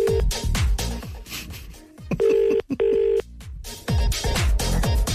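A phone line gives a double ring, two steady tone bursts of an outgoing call, heard clearly in the middle between stretches of busy, rhythmic music with thumping beats.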